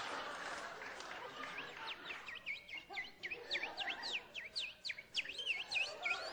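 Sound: person imitating bird calls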